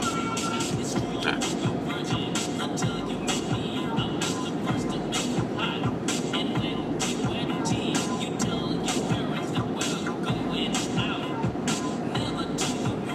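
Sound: car interior road noise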